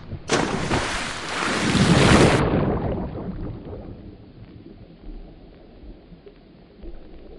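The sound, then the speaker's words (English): A big, loud splash as someone jumps into water, a roaring burst of spray lasting about two seconds, then settling into softer sloshing and bubbling water. “Higher Ideas Podcast Season 2 starts not with a bang, but with a splash!”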